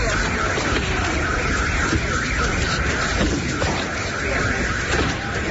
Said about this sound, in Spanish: Es el sonido de las alarmas al que ya se ha acostumbrado la población ucraniana.